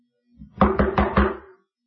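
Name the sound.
knocking on a door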